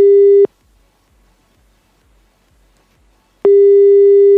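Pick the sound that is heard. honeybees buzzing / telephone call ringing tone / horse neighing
telephone call ringing tone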